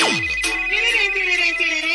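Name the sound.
phone ringtone ringing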